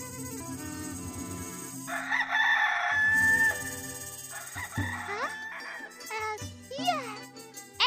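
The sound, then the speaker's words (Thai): A rooster crows loudly in one long drawn-out call, followed by scattered clucking and a child's voice, with faint jingling and background activity. “ชอบไก่เหรอลูก”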